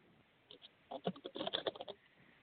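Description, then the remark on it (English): A quick burst of papery riffling and soft flicking, tarot cards shuffled in a rapid flurry of light taps during a reading, preceded by a couple of faint rustles and fading to quiet. “Just shuffling right now.”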